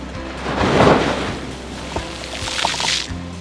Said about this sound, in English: It's a rough life. Uh-oh, here comes a wave.